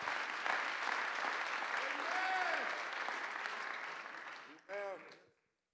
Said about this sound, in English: Somebody clap your hands and give him praise right now.